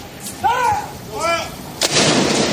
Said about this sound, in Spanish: En total, 96 cañonazos pudieron escucharse en distintos puntos del país por cada año de su vida.